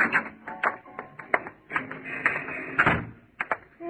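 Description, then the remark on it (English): A door is opened, with a series of sharp clicks, knocks and rattles from the latch and handle spread over a few seconds, and no voices. “I'll get the door.”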